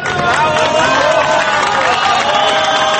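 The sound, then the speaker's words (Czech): Rescuers and gathered family members at a mine in Chile applaud and cheer, with a mine siren, as the first rescued miner emerges from the rescue capsule; a dense continuous wash of clapping mixed with excited shouts and raised voices, loud and steady throughout. “Uz zvuk rudarske sirene, pljesak spasilaca i okupljenih članova porodica te najviši čileanski zvaničnik,”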